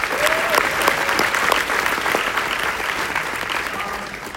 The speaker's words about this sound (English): So just a quick golf clap for being here at Forward.